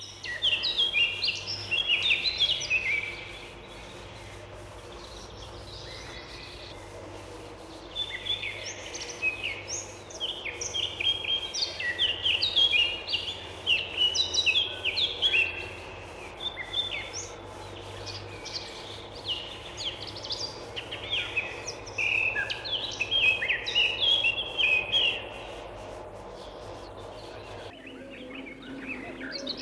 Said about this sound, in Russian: Это песня Славки Черноголовки, одного из наших лучших лесных певцов.